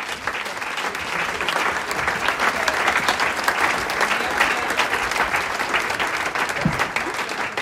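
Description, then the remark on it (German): Sustained applause from an audience welcoming two performers onto the stage, a dense steady patter of many hands clapping at an even loudness throughout, with no voices standing out. “Großen Applaus.”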